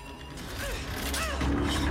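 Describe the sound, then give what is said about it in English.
A machine going haywire, grinding and straining as its metal cogs jam and chunks of metal shear off, with creaking, scraping mechanical noise, a few squealing metallic whines, and a low rumble that grows steadily louder. “Chunks of metal shear off as its cogs begin to jam.”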